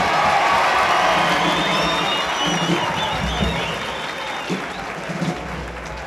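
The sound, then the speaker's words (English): A large audience claps and cheers steadily, a dense wash of applause with scattered whoops that stays loud before tapering slightly toward the end. “So after all, I'd like to give all of you all a great big applause.”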